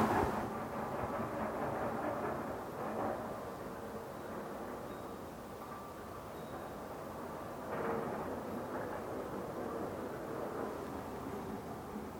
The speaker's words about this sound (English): I guess presumably freight trains go slower when they're in residential areas too. They're not zipping along.